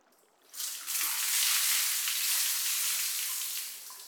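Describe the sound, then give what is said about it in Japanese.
Hot water pours in a steady, hissy rush to rinse away foam. It starts abruptly after a brief quiet moment, holds evenly for about three seconds, then eases off slightly at the end. No voices. “でも、もっとかけないと泡は全部流れませんよ。”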